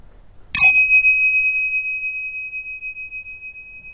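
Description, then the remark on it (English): A single bell is struck once to start a session, its bright, clear tone ringing out and slowly fading over several seconds in otherwise quiet surroundings, with no voices. “And I'll ring the bells to start and to finish.”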